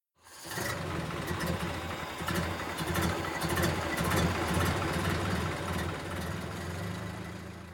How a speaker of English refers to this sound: One day, a big silver car arrives at the school gate.